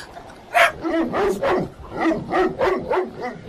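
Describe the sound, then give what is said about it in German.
A huge dog barks in a forest in a rapid, insistent series of about seven loud barks, each one deep and full, with no talking in between. “Oh mein Gott, was ist denn das? Ein riesiger Hund!”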